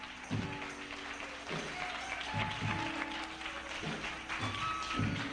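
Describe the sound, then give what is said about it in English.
A church audience applauds as people take their seats, a steady wash of many hands clapping with some louder individual claps and thumps scattered through, holding at a fairly even level for several seconds. “Let's give him a big hand clap as you take your seats.”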